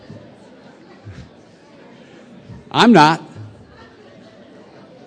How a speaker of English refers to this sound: That didn't slow down the buzz in the room. I guess you noticed that, huh?